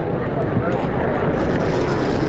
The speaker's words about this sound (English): Now, what are you doing there with that strange snorting noise you just made? That is to oxygenate the wine over your tongue inside your mouth. So oxygenate over your tongue inside your mouth.